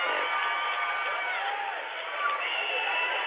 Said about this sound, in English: What are they cheering for?